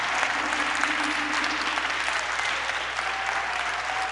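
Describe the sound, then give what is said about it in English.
A crowd applauds two pastors steadily, a dense, continuous wash of clapping that holds at an even, fairly loud level for about four seconds without pause. “Would you be so kind just to give Pastor Woodrow and Pastor Francine a round of applause?”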